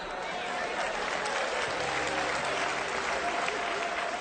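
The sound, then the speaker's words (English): A large audience breaks into sustained applause, a dense wash of many hands clapping together at steady volume for several seconds, with faint crowd murmur mixed in. “So train somebody now. Clap.”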